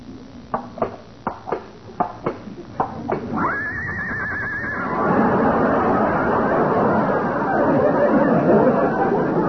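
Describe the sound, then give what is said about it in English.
A run of hollow hoof clops gives way to a horse named Lillian whinnying as she is brought out as the model for an art class, a shrill, wavering neigh that trembles up and down, followed by a loud, steady wash of crowd noise. “Lillian is a horse.”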